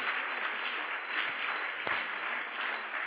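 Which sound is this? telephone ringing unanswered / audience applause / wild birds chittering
audience applause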